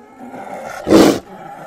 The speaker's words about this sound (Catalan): Efecte de so de tigre amb asma. Sí, sí. Això està molt treballat, eh? Tigre asmàtic, sí senyor. Mira, mira, mira. Mira com li xiulen els pulmons.